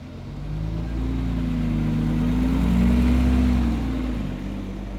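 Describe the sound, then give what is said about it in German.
A bus engine rumbles and revs up as it pulls away, its low drone swelling louder midway before easing slightly, with no voices. “Die Klasse 6a nahm ihre Koffer, Taschen und Zelte und ging geschlossen zum Bus, der bereits auf sie wartete.”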